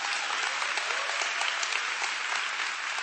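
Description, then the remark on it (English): A church audience applauds visitors steadily, many hands clapping in a dense, even wash of sound that holds at a constant loudness throughout, with no voices standing out. “Oh, give our visitors a big hand clap.”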